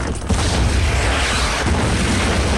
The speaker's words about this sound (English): Now another tank barrels through a wall advertising U.S. Energy cigarettes. The cannon fires.